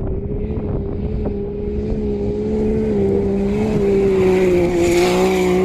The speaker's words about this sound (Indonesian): Suara kendaraan yang menderu-deru ditingkahi sorakan orang-orang yang menyemangati favorit mereka. Para rally gurun ini menerjang bukit-bukit pasir.